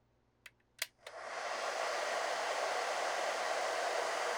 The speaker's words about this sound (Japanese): てなわけで、ドライヤーかけてしっかり乾かしていくよ。